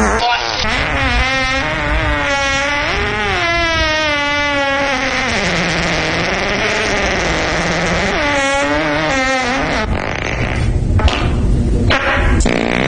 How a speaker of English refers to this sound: And before that, the Step Brothers fart, which I had forgotten just how powerful that was. Oh, that was a good one, yeah.